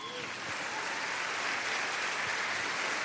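Steady, dense applause from an audience, a continuous wash of many hands clapping at even loudness for the whole stretch, with no voices standing out.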